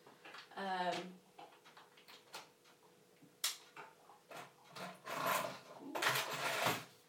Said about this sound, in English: Knocking bottles over.